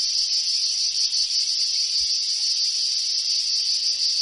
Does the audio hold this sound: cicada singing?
yes